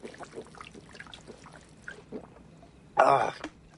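Water trickles and pours for a few seconds, with soft liquid gurgles, then a brief louder splashing gulp as it is swallowed near the end before it quiets.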